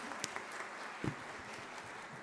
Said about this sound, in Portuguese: Salva de palmas para a banda